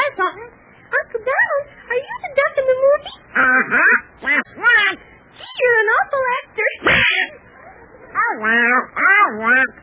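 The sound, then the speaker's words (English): Donald Duck's cartoon voice quacks and squawks in rapid, garbled bursts, loud, sounding like excited duck-like chatter with no clear words. “How about saying hello to Donald Duck?”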